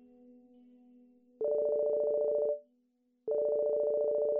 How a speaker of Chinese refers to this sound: 我的手机响了，我使劲地挣扎了一下， 我要接电话。 然后我跑到一边去，从口袋里掏出手机，是妈妈。